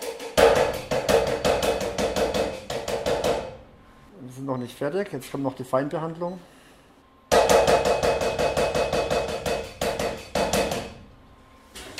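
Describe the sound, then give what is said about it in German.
Rapid, evenly spaced metallic clangs, like a hammer on an anvil, as electrical discharges (flashes) strike the counter-electrode, loud, in two sustained bursts separated by a short stretch of a man speaking. “Das ist das Geräusch, wenn der Blitz auf der Gegenelektrode einschlägt.”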